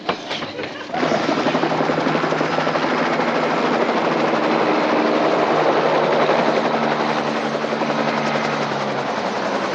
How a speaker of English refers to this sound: Item two. Choppers, sir. What choppers? Where choppers?